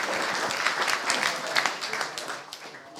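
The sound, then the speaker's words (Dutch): A crowd breaks into sustained applause for the Brabant junior of the year 2024, many hands clapping densely and steadily, tapering off slightly near the end with faint voices mixed underneath. “Applaus voor de Brabantse junior van het jaar 2024,”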